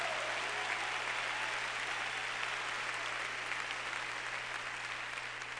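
An audience claps steadily for several seconds, a dense wash of many hands applauding together at an even, sustained loudness with no voices standing out.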